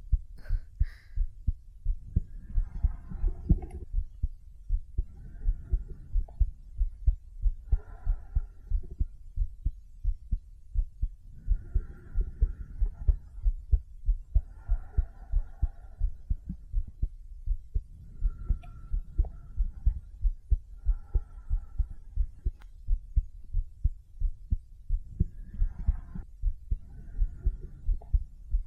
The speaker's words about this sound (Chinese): 哥哥，听到了吧？我的心跳声。